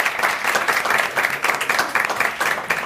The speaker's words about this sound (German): Applaus.